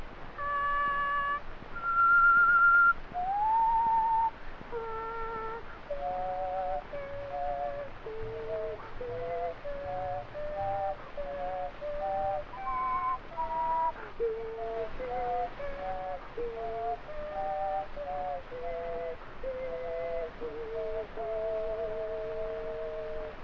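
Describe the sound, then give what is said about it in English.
Whistling that sounds like several tones at once, with stacked pitches moving together through a long, wandering melody of held and sliding notes. It plays alone without talk. “Do those three tones at once?”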